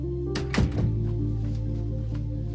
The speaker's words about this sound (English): Will glances back at Amelia. He shuts the door and faces her.